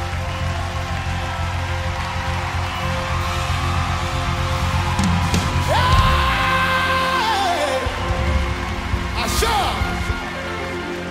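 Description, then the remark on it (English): A crowd claps at a speaker's call to clap their hands, in a dense, rain-like patter that keeps an even level throughout, with voices calling out and a rising, held shout over the clapping. “Oh, clap your hands so you keep it. As you clap, you are...”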